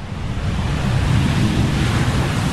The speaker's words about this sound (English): I'm just going to pause. I'm going to put a plane noise in here.